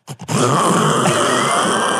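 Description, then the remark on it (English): A sleeping dog snorts: two short, sharp snuffs, then a long, loud, rasping snort that roars on steadily for nearly two seconds with no talking. “And of course, it doesn't fall asleep and just be a dog. It sleeps just like. Does it snort? Has apnea?”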